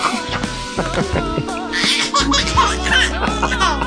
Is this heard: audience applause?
no